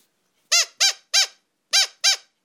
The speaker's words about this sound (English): This is the squeaking crocodile.